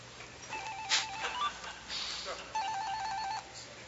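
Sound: cell phone ringing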